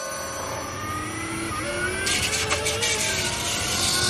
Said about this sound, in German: Wir hatten dem Auto damals aufgrund des relativ markanten Antriebsgeräusches übrigens den Titel »Singende Säge« verpasst. Wir hören nochmal kurz rein in eine Soundaufnahme bei Beschleunigung des Fahrzeugs.